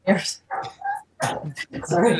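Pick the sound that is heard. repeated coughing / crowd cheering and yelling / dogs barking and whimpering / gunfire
dogs barking and whimpering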